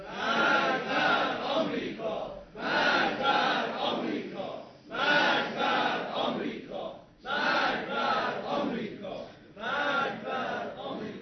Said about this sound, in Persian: اما امروز بار دیگر می‌خواهیم از این حسینیه و در این جمع علمی و نخبگانی مشت محکمی بر دهان یاوه‌گویان بزنیم و فریاد مرگ بر آمریکا را تنین انداز کنیم.